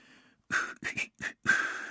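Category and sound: human body sound, cheerful whistling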